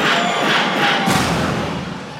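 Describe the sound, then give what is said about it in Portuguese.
A crowd of singles shouts and cheers in a loud, continuous roar with no single voice standing out, swelling briefly near the middle and then slowly fading toward the end. “Cadê o grito dos solteiros?”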